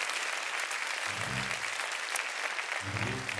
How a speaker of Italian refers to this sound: Fratelli, facciamo un applauso al povero Lollobrigida. Poverino Lollobrigida.